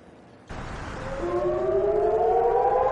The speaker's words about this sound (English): When sirens warn of a rocket attack, residents of Eilat in southern Israel have about 30 seconds to get a shelter.